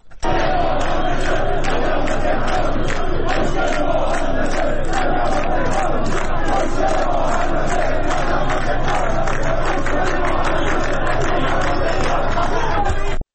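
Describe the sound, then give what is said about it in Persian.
A loud crowd of protesting firefighters gathered in front of the municipality building in Tehran, Iran, demanding attention to their pay and livelihoods, raises many voices together in steady, rhythmic chanting and shouting, a dense roar of voices that holds continuously with a regular pulse throughout. “همزمان با سالگرد آتش سوزی ساختمان پلاسکو در تهران، آتش نشانان پایتخت در مقابل ساختمان شهرداری تجمع کردند.”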